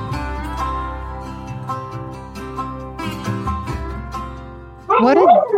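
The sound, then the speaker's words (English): Soft, sustained tonal music plays for several seconds, then Sam, a little visiting dog, suddenly barks loudly as a Zoom call wraps up, a rough, jagged outburst that lasts until the end. “Our dogs understand when our Zooms wrap up, and Sam seems to understand.”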